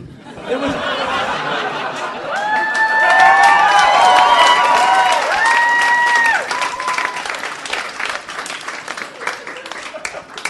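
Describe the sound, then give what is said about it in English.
A live audience gives a standing ovation for a pun, breaking into sustained, dense applause lasting about ten seconds, with loud cheering and high whoops rising over the clapping in the middle before the ovation continues on its own. “You just got a standing ovation for a pun.”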